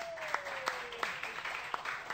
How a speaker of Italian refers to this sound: Ragazzi, siete pronti? Allora, facciamo un applauso che vado a presentare